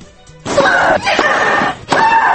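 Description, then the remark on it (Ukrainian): A loud, sustained scream from a tennis player mid-shot at Wimbledon, rising sharply and held for over a second, followed by a second loud shriek, without any talking. “Спортсмени кричать гучніше паровоза.”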